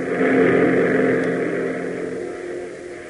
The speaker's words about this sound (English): seeing the P-38 roar in, its nose guns black and threatening, and the Stinson following